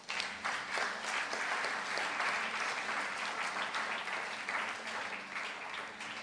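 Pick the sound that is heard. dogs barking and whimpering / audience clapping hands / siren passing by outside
audience clapping hands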